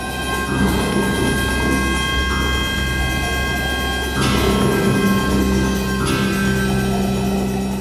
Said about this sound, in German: Marion Wörle steuert ein Orchester aus Orgel, Pfeifen und anderen echten Instrumenten wie Hörnern und Trompeten. Dazu ferngesteuertes Schlagwerk, das wirklich komplizierte Rhythmen spielen kann